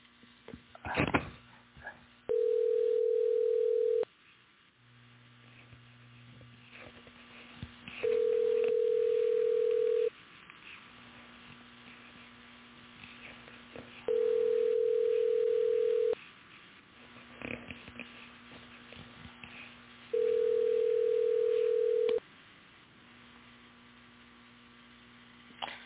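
A phone call rings out unanswered: four long, steady mid-pitched tones spaced evenly about six seconds apart, over a faint low electrical hum, with no voices.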